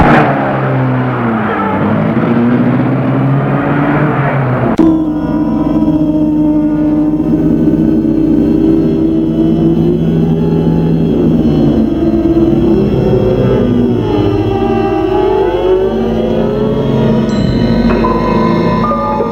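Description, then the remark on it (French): A car engine starts up and pulls away, its loud, steady drone rising and falling in pitch as it accelerates through the gears. “Et la voiture démarre.”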